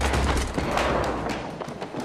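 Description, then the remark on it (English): A chair tumbles down steps in an old hotel in a rapid run of hollow thuds and wooden clatters, loud and irregular, with a heavy low rumble that thins out as the knocks continue. “A chair tumbles down the steps.”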